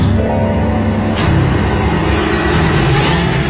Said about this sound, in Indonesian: itu mobil kijang merah marun lagi. Dan dengan plat nomor yang sama. Tidak akan mungkin ada mobil yang sama lewat sampai 3 kali di jalan tol.